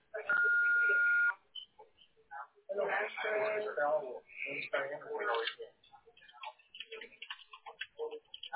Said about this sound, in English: Hello, we are unable to answer right now. To send a fax, please start transmission. To leave a voice message, please speak after the beep. Thank you.